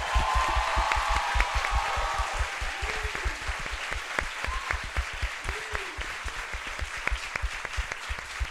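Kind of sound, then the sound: crowd, audience applause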